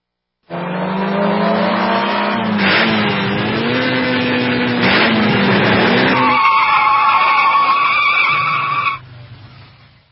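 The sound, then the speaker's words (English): A loud drag racing car revs hard with rising and falling engine tones, then its tires screech in a long, high-pitched skid before cutting off abruptly. “Drag racing, drag racing.”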